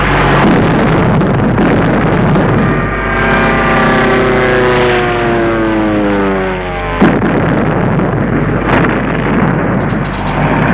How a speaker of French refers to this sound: Il ne s'agit pas d'une manœuvre, mais d'une véritable attaque. Les avions japonais vont...